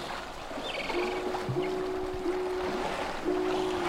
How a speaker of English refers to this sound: Walrus are vocal, and their distinctive gonging and belling calls carry underwater and can be heard above the water as well.